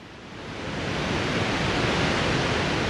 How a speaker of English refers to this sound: Tum. The sound of water hitting rock. Tum. The great Columbia River, draining all of the Northwest, gushed over the basalt barriers, pounding the rock like a giant gong, calling the people from miles around.